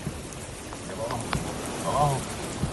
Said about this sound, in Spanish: Así sonaban las lluvias caídas en Lanzarote y que ha afectado sobre todo a los municipios de Arrecife, Teguise y San Bartolomé.